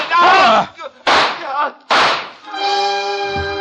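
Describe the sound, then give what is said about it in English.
Three loud gunshots crack out roughly a second apart as Paula fires her gun at Michelle, each with a ringing, echoing tail, and then a steady sustained musical chord takes over. “Her gun spit and 3 slugs plowed their way through Michelle.”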